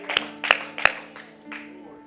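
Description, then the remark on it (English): A standing audience claps in unison to worship the Lord: three sharp, loud hand claps in quick, steady rhythm over a sustained low droning tone, which lingers after the claps stop. “Yeah, worship the Lord with a hand clap right now.”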